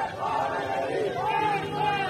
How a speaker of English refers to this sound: Gunshots and anti-government chants could be heard. Prisoners' families gathered alongside protesters outside.